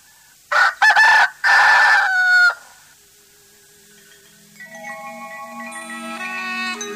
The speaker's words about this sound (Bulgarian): Краят на приказката, Шахриар, а и първи петли пропяха.